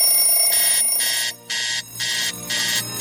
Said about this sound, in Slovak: Ľudská si nastavuje každý deň 15 budíkov, každý má iný zvuk a tým pádom to u nej môže častokrát znieť aj takto.